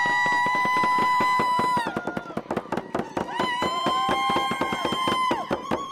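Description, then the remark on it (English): A loud crowd with dancers and drummers cheers for artist Crystal Worrell and her portrait of Paradovich at the downtown Juno Library in sunny weather, with dense rapid clapping and sustained whistle-like tones running throughout, while one voice shouts out briefly. “The crowd cheered loudly for the artist, Crystal Worrell.”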